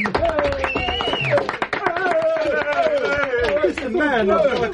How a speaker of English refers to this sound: I can't stand canned applause. You know what it is?